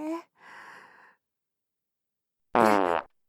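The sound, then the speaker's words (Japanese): A single loud fart lasting about half a second, with a buzzing, fluttering tone. A couple of short breathy vocal sounds come just before it, followed by silence. “おじさんも臭いおなら、好きなんだ。”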